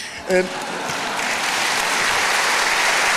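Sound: applause sound effect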